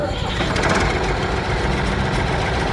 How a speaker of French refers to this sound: Oh, c'est un tracteur John Deere. On l'utilise pour les colons, généralement, pour tout ce qui est agriculture.